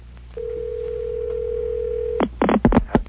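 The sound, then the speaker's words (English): A single long, steady ringback tone hums over a telephone line for about two seconds on an outgoing call dialed through an outside line, then breaks off into a few loud clattering bursts, like the receiver being picked up. “It's ringing.”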